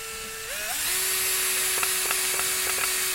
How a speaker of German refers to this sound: bohrt wie eine Weltmeisterin. Jetzt halt doch mal richtig. Hab ich.